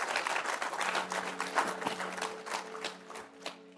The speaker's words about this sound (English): Give the Lord a word, a hand clap for his word this morning.